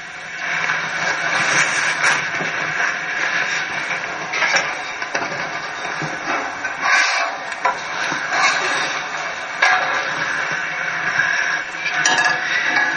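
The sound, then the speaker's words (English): Fish sizzles steadily in a frying pan, a dense, bright crackling hiss that holds at an even loudness throughout, with occasional sharper pops and no voices. “Sizzling, and it smells real, real good.”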